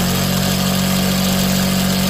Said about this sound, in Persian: ماشین های خیاطی. کوچه کاست فروشی به کوچه خیاطان مبدل شده.